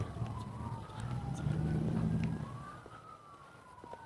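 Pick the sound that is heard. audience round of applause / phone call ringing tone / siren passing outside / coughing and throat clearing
siren passing outside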